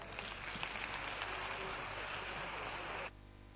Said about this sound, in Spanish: Con todos ustedes, un fuerte aplauso,